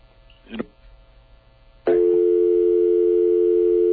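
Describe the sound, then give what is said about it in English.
A click, then a brief clatter of a phone line connecting as an incoming caller comes on the line, followed by a loud, steady electronic telephone tone that holds unbroken to the end, with no voices. “Sorry, we had somebody calling, and I think we may have them here.”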